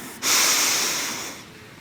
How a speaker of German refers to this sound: Atmet ein durch die Nase.